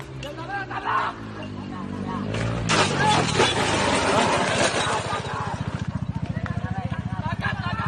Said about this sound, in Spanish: Pues escucha, vamos a poner un vídeo donde dos personas lo ven y le graban cómo salta con patada voladora contra el motorista que de nada conocía.